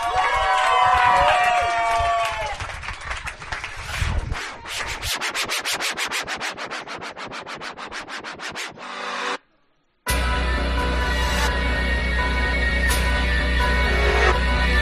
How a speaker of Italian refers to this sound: Un applauso raga.